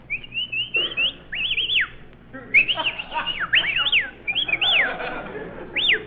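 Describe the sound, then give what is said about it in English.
Shrill human whistling in a quick run of rising and falling notes, bright, with short pauses between bursts over a soft background hiss and no voices. “Well, we may as well whistle at each other.”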